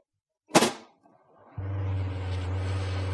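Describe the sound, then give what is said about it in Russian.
A sharp pop bursts out, then after a brief pause a foam fire extinguisher bought at a flea market lets out a steady, loud hiss with a low droning hum underneath, spraying no foam, continuing without letup to the end. “Не вижу пены. Одно шипение.”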